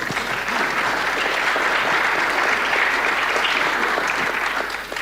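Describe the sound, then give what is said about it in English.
Steady audience applause congratulating the founder of the fund Meditation Capital on its launch, a dense patter of many hands clapping at an even loudness for about five seconds before tapering off at the end, with no voices heard. “Round of applause for that, huh?”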